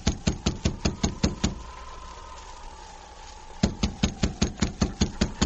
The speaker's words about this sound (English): I'll knock on the door.